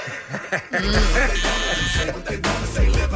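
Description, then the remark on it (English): A harsh, low game-show buzzer blares for about a second and a half, then sounds again briefly, with faint chuckling and voices underneath. “Did you buzz it?”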